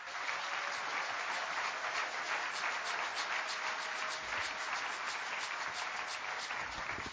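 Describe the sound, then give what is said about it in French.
An audience applauds steadily to acclaim God's name during a sermon, a dense wash of many hands clapping at an even, sustained loudness for several seconds with no voices standing out. “Acclamons son nom.”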